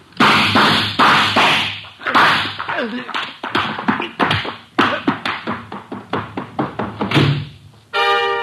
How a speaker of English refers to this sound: you know I dislike the banging of doors. Sign of ill breeding.